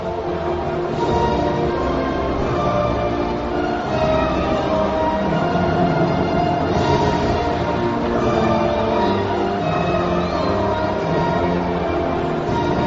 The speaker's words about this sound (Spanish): Suena el himno nacional de España.